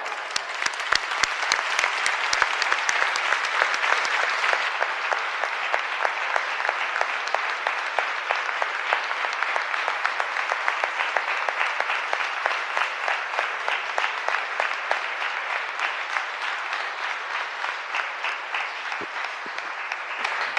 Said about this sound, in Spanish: Esto que oyen son los aplausos y las expresiones de cariño a Nuestra Señora de las Angustias al término de la Eucaristía que en su honor se celebraba en el día de su festividad, el día 15, con nuestro arzobispo